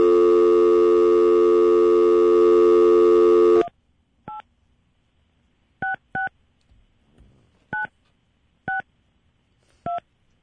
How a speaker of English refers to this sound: Sorry about that. Sounds like music. I didn't cut the phone numbers out. Sorry.